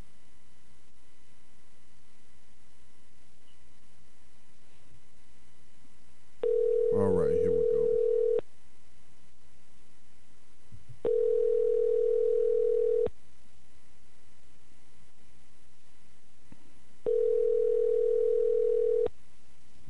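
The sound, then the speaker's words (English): A telephone dial tone, heard while hanging up and calling a caller back, sounds in three steady, evenly spaced bursts about two seconds long, separated by pauses over a faint background hiss, with a brief murmur of voice during the first burst. “All right, let me see, listeners, if I can just hang up and call him back.”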